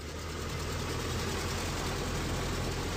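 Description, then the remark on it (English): A vintage Ford Model T car engine idles steadily, a continuous low rumble with a fast, even mechanical chug and no voices over it. “The Model T turns 100. Thanks, Henry. Now, let's try and drive this sucker”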